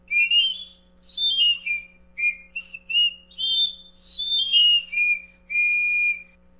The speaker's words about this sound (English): And how about a little bit more of that really delightful pan flute to go out on?